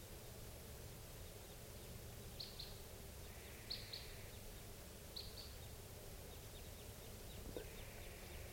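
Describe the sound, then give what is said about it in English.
Type 2 crossbill flight calls from three birds flying past, at 8:22: a handful of sharp, high 'kip' notes, some in quick pairs, rising faintly above a steady hiss of background noise. “Birds just flew past. They were type 2. Stop. Crossbills at 8:22.”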